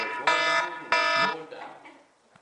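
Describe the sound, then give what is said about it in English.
An alarm set to close a class on time goes off with two loud, harsh electronic beeps, each lasting about a third of a second, then fades out as faint voices carry on in the background. “There's our alarm.”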